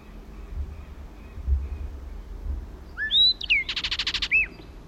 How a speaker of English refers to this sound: Southern lapwings.